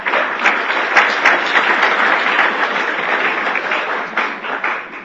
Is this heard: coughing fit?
no